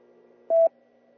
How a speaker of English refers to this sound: Looks like we're not getting beeped anymore beyond 11 o'clock. I think that's the way the machine works.